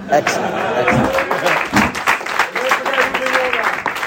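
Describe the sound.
Crowd cheering sound effect: a steady, loud wash of clapping mixed with shouting, whooping voices, holding at an even level for about four seconds.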